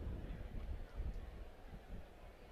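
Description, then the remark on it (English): Wind blows across Rogers Field, an open outdoor ballpark, during a baseball game as a steady, muffled low rumble with uneven gusts buffeting the microphone. It stays fairly quiet and continuous for the whole stretch, with no clear voices. “Kind of windy out at Rogers Field today.”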